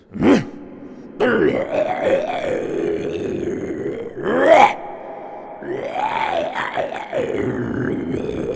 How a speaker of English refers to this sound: And a bit of grunting is always helpful.